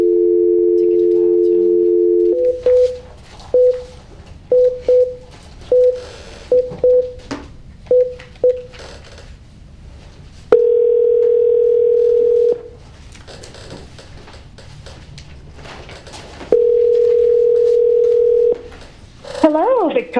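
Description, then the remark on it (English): While a conference call is set up, a steady telephone dial tone plays, then a rapid series of short keypad beeps, followed by two more long sustained line tones. Faint background murmur sits underneath, ending with a brief warbling tone. “I'm going to go ahead and conference you in.”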